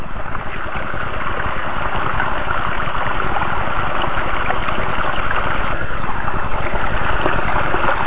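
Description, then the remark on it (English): A steady rush of flowing creek water at a waterfall, continuous and fairly loud throughout with no pauses, nothing else standing out above the babbling wash. “Java created that creek for your enjoyment.”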